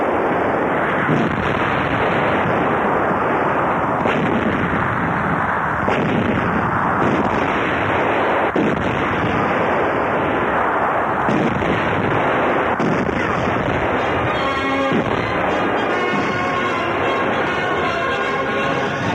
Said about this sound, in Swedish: Allt vad Montgomery har sätts in i ett kraftigt anfall på El Alamein-fronten. I två dagar rasar ett stort pansarslag i öknen vid El Alamein.